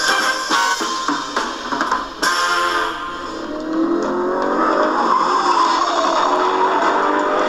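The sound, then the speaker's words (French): A Ford Gran Torino's engine roars and revs up loud while its tires screech across the pavement, opening with a few sharp bursts before settling into a sustained, rising howl. “Les pneus Chris, le moteur de la Ford Grand Torino, frombit.”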